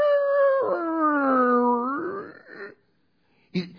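A dog lets out one long, wavering howl with a sing-song rise and fall, loud, trailing off into a short yip-like bark at the end.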